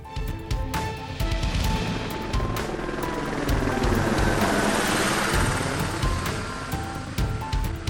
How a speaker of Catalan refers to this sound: Però quina sorpresa! Havia aterrat un helicòpter